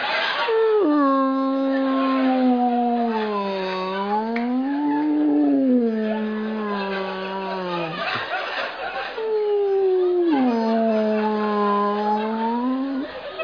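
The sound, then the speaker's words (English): A man's voice imitates humpback whale song, mimicking his dad's noises in the bathroom, with two long, wavering moans that slowly rise and fall in pitch, loud, with a brief breathy pause between them. “when he's in the bathroom, it sounds like …”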